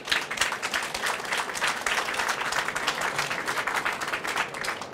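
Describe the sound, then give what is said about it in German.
An audience applauds Gerhard Baum steadily, a dense wash of many hands clapping at once with a fairly even, sustained loudness throughout and no voices standing out. “Applaus für Gerhard Baum.”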